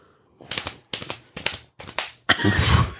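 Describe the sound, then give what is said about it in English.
Hands slap against laps in four quick, sharp bursts, each a short flurry of patting, then break into a loud, dense drum roll of rapid slaps at the end. No voices. “Those are just your laps being slapped.”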